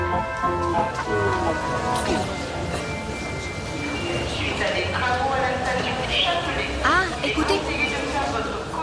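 Busy metro station ambience at Bastille station on the Paris Métro, where line 1 is being taken: a dense, steady wash of crowd murmur and rumbling rail noise, with brief squealing and whining tones rising over the din throughout.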